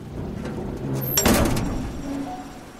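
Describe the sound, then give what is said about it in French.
Heavy metal prison doors at Eastham Prison Farm in Texas, 1932, slam shut with one loud, echoing clang, preceded by a brief metallic scrape, over a steady low rumble of background noise. “Les lourdes portes en métal se ferment dans un claquement assourdissant derrière Clyde Barrow”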